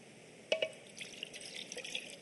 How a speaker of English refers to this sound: he takes off his outer garment, wraps a towel around his waist, and then he pours water into a basin.